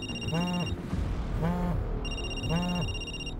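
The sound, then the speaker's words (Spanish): A telephone rings in three evenly spaced bursts, each a warbling electronic tone, over a steady low background hum with no one speaking. “¿Por qué no contestas el teléfono, cabrón?”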